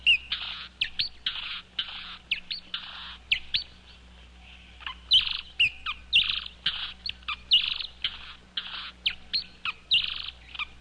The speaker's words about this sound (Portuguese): Vamos comparar, então, os sons, os cantos dos dois beija-flores. Os dois em velocidade bastante reduzida, que é para a gente poder comparar o canto deles.